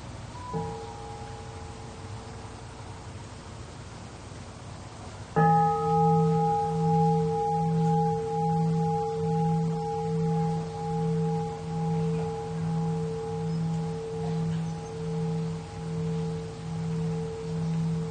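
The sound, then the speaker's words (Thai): A meditation bell, rung for listening with mindful breathing in and out together, is first touched softly, then struck fully; its deep, warm tone rings out and hums with a slow, wavering pulse as it fades gradually. No voices are heard. “ขอให้เราเบิกบานกับการฟังเสียงระฆังตามลมหายใจเข้าออก”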